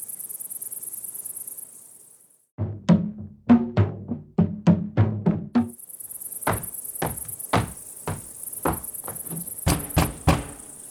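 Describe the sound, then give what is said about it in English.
Loud, heavy banging on an office door, a rapid series of thuds, a short pause, then another round of pounding knocks, with a steady high insect-like chirring in the background. “Open this door, Juru. Open up.”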